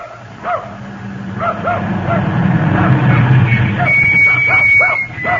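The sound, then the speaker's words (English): A woman's dog barks repeatedly in short, irregular bursts, some sharp and yippy, over a steady low rumble in the background. “Well, now, if you'll call off your dog, ma'am”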